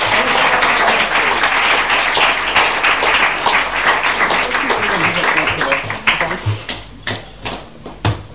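A crowd applauds to welcome two artists onto the stage, a dense, steady wash of clapping for about six seconds, then it thins out into a few scattered, sharp individual claps before fading.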